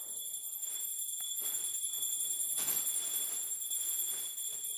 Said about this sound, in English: Shyamaldas's oldest son is praying inside. Hindu people ring a bell to tell their deities they've arrived